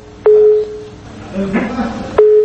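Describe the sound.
A steady electronic phone tone beeps after a phone call is cut off, breaks off while a voice talks briefly, then sounds again, like the repeating busy signal of a disconnected line.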